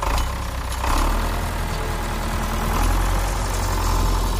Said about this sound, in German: dem Traktor hinterher, der auf einen schmalen Feldweg einbog und sich immer weiter geradeaus auf eine Ansammlung von Lichtern zubewegte